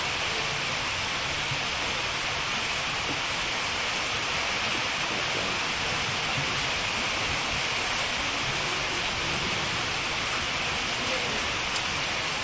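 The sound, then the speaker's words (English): Heavy rainy-season rain pours down steadily outdoors during storm season, a dense, continuous hiss of water that stays loud and unbroken throughout, enveloping. “But, somehow or another, nowadays we get the rainy season rain in the storm season”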